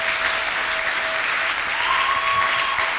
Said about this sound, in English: If you are getting blessed, can I ask you to clap to God's glory?